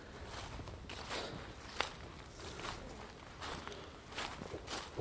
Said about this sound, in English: Do love the woods. Really fit as a warm in that you when you're in the woods. Listen to the wind go through the trees.